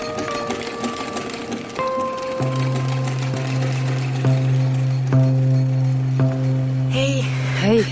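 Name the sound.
sewing machine stitching fabric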